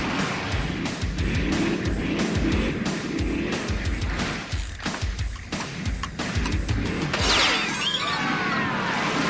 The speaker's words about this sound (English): Racers, start your engines.